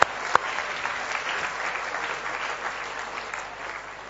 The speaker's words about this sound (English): Well done, everybody. Give yourself a clap.